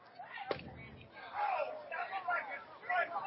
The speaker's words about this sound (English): This fastball just low. You hear the crowd voice their complaints with the call. Some people in the third baseline club thought it caught the bottom of the strike zone.